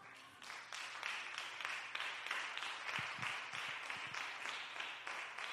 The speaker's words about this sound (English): All right, we clapped. That's one action.